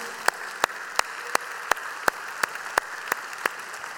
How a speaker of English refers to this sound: I want to give greetings to our Nagpur, India campus, our Wyoming campus, and the young people watching at the Kent County Juvenile Detention Facility. Would you, by way of applause, let them know we love them?